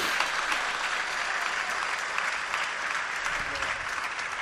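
A crowd applauds steadily, a dense wash of many hands clapping at an even, sustained level for several seconds with no pauses or voices standing out, applauding someone who has been with them for 10 years.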